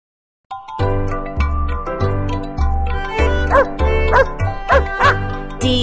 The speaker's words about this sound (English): D-O-G. This is a dog. D-O-G. This is my dog.